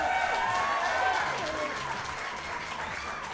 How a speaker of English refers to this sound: Ladies and gentlemen, the Old Quarry Middle School Big Band on their home turf. Give them another round of applause.